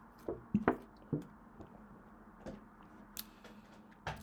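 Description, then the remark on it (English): Someone quietly sips water, with a few small wet clicks and gulps spread over several seconds against a faint background hum; nobody speaks. “With all of those different sectors, I'm going to take a sip of water because I'm not editing this.”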